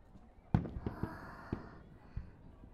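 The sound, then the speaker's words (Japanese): Fireworks thump and pop in an irregular series of five or so soft bursts, with a faint crackling shimmer lingering between the blasts. “お姉ちゃん、こうして君と二人で花火見るの憧れだったから嬉しいな。”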